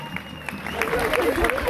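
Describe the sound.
An audience breaks into brief, steady applause, a dense wash of many hands clapping, with voices calling out over it as it builds.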